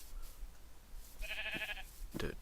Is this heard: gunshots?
no